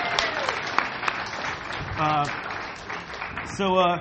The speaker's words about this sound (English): But let's give our volunteers a round of applause, though, because they're super dope.